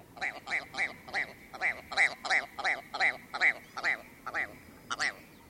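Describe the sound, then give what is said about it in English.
A ptarmigan gives a rapid, laugh-like call, a series of about fourteen harsh, nasal croaks in quick rhythm, clear, then a brief pause before a final croak. “Well, it's no wonder why the ptarmigan likes a good laugh.”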